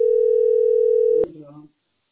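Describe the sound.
A steady, mid-pitched telephone ringback tone sounds clearly for just over a second, then cuts off with a sharp click as a brief voice comes on the line.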